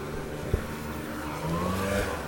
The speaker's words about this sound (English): And a car that's trying to hit me.